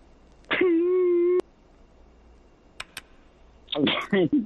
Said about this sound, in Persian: چرا برادر شما گریه میکنین؟ بفرمایین چی مشکلات هست؟